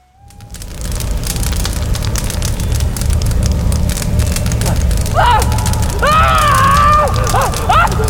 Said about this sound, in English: Fire filled the world, like thunder mated to wind. Yellow-red, raging, it burned up from below, beating at Little Dancer in loud fury.